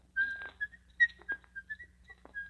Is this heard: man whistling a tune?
yes